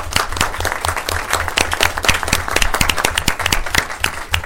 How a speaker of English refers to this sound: So we want to recognize your achievement, I guess, if we can give him a round of applause.